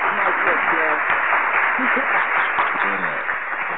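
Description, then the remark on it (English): Steady, dense applause fills the whole stretch at a fairly loud level, with a few voices calling out beneath it; the sound is thin and muffled, like it's coming over a phone line. “Yo, round of applause.”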